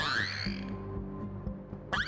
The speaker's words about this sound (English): Yeah, that is not a bird. That is a beluga. Whoa, he got me. So they are able to make a lot of really interesting noises.